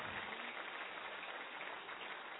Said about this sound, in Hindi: ताली बहुत कम है। एक हाथ की ताली, दादाजी साहब आपका अभिनंदन कर रहे हैं। एक हाथ की ताली से भाई साहब का स्वागत करेंगे।